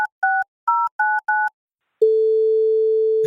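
A phone call being placed: five quick keypad beeps in a row, a short pause, then a steady, clear ringing tone that carries on to the end. No one speaks.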